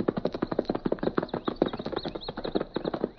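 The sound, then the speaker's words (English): Rapid, rhythmic hoofbeats of a galloping horse fleeing toward the hills, clip-clopping steadily and loudly, with no voices present. “He turned and fled.”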